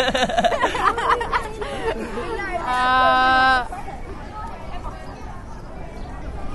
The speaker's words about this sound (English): I can hear seagulls chirping, yeah, and wind through the leaves of the trees and school children.